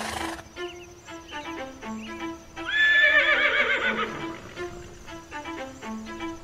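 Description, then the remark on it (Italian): A horse, Alexander the Great's beloved horse Bucephalus, lets out a loud, shrill whinny midway through, preceded and followed by scattered hoof clip-clops, with a steady low tone running underneath. “Il forte legame fra Alessandro Magno e il suo cane lo si ritrova anche con l'amato cavallo Bucefalo.”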